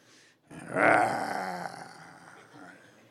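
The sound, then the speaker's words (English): A human voice imitates a beast's deep, rough growl, one sustained rumbling snarl with a grunting edge, fairly loud, fading off over a couple of seconds. “I mean, he's really hairy and he's sitting at a table and he's growling and he's grunting and, you know, he's waiting for his dinner.”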